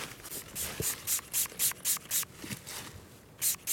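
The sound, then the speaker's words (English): A pump spray squirts fox urine onto a wick in a quick series of about ten short, hissy bursts, fairly rhythmic, with no talking. “Spraying fox piss on this wick.”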